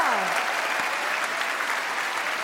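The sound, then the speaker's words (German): Loud, sustained applause from the orchestra and a large audience in a hall in Dresden, a dense steady wash of clapping with a few faint voices or cheers rising briefly at the start. “Liebes Orchester, liebes Publikum hier im Saal, darf ich um einen riesen Dresdner Applaus bitten.”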